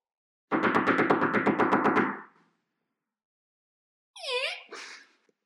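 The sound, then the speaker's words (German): A fast, even burst of about a dozen loud knocks on the deer's door, lasting under two seconds. After a short silence comes a brief, high, warbling vocal sound. “Klopfst mal an.”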